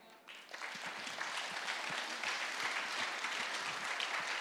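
An audience breaks into applause, a dense, steady wash of many hands clapping that swells in the first half second and then holds at an even, fairly loud level with no talking over it.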